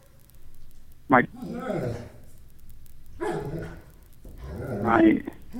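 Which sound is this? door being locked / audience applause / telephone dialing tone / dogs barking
dogs barking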